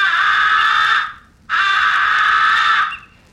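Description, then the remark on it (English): A crow's love call: two long, drawn-out, rasping cries, loud, separated by a brief pause, with no talking. “Here is the love call. It occasionally brings response during the mating season.”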